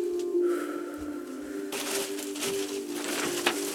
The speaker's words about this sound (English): Do you have to make all that racket? Oh, sorry. It's quite a simple thing, you know, turning over a page. Anyway, that's my paper.